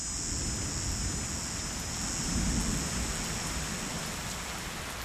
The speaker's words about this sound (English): It rains every day in the wet season. The north winds bring the storms, and this is when we look for ducks and magpie geese.